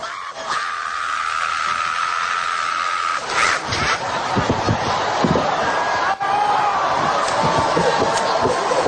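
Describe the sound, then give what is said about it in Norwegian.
A crowd at a Todd Bentley revival meeting howls and screams together in a dense, continuous roar, with a sustained high wail running through the first few seconds before the noise grows rougher and more chaotic. “Først det mye hyl og skrik, så vet jeg husker.”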